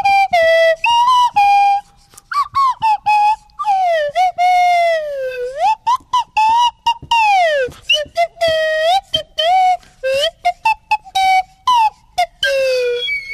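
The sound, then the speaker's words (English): A man plays a tune on a swanee whistle in a bright, reedy tone, mixing quick choppy notes with long swooping slides up and down in pitch, loud and alone throughout. “I'm going to play you three songs that he played earlier for us on the Swanee whistle.”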